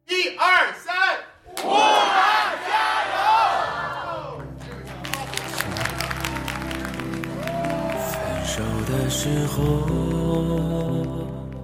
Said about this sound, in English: That chant there, Stay Strong Wuhan.